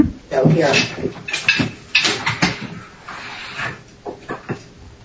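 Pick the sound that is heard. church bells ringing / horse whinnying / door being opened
door being opened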